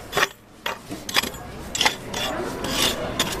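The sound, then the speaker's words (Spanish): A 68-year-old volunteer parishioner scrapes weeds from between cobblestones in front of a church door in Sceaux, France: harsh, rasping strokes repeat at an uneven rhythm, each a gritty, hissing scrape, with steady rough scratching between them. No one speaks. “está quitando los pastos que sobresalen entre los adoquines”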